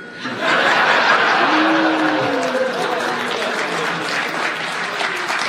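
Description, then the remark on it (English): A crowd breaks into sustained applause, a dense wash of clapping that starts abruptly and holds steady, with a few scattered voices and chuckles mixed in. “I don't know why you applaud”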